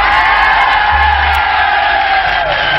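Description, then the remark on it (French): A large crowd at a show near Paris roars with cheers and applause as the act Interdance is announced, a loud, steady wall of clapping and whooping that holds at full strength for the whole stretch, with no one speaking over it. “Et bien maintenant, je vais vous dire, et voici Interdance, vous allez applaudir à tout rompre, et voici Interdance.”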